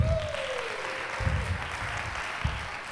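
An audience applauds a volunteer who is about to be interviewed, in a dense, steady wash of clapping that holds at a fairly even loudness for the full three seconds, with a faint falling tone near the start and low thumps underneath.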